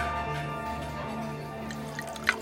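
A waiter pours wine steadily into a glass, a continuous gurgling trickle with a faintly ringing tone, ending with a small splash or drip near the end. Fairly quiet, with no voices.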